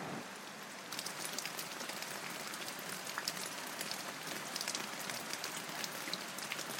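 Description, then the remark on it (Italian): Steady rain patters down into a lake, a dense, continuous hiss of droplets with small splashes scattered throughout, even in level after a quieter first second. “Divennero pioggia e caddero infine nel lago.”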